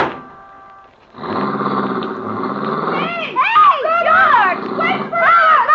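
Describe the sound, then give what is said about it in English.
A car engine starts up and roars loudly, its pitch rising and falling through several revs as the vehicle pulls away. “Well, here's my car.”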